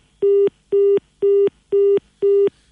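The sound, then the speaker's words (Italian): A telephone line beeps out a steady, rapid pattern of five identical tones after a call is cut off, each about a quarter second long with equal gaps, clear with no one speaking. “Kege ko motu mai ai telefoni a makamaire.”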